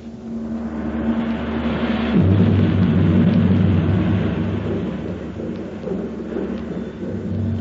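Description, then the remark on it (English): A deep, sustained rumble of thunder from an approaching storm near a valley, swelling louder around the middle before slowly fading, with a steady low roar underneath and no one speaking. “I declare, I believe there's a storm coming up.”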